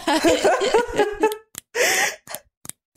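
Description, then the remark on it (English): Someone imitates an eerie, spooky noise using comb bristles and breathing in: a drawn-out, strained breathy vocal sound, a few small sharp ticks, then a quick rasping inhale followed by more faint clicks. “But they made this noise, I read in some of the trivia, by like with comb bristles. It's like, and someone breathing in.”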